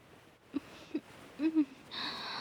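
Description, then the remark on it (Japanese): A person desperately sniffs a scent like a dog, breathing growing rougher: several short, heavy breaths and quick sniffs come in uneven bursts, fairly soft, ending in a longer rough, hissing breath. “ご主人様の吐息がより荒く激しいものになりました。まるで犬のように必死になって香りを嗅いで”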